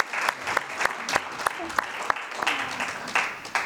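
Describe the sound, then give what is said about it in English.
An audience applauding award winners at a coaching awards ceremony, dense overlapping claps with a few sharper hand claps standing out, sustained throughout at moderate volume. “So let's give them another clap.”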